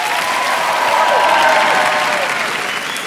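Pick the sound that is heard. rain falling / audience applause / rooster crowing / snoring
audience applause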